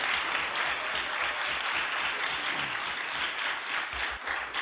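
Sustained, dense applause from a large group in a legislative chamber, steady and fairly loud throughout with no break and no voices speaking over it.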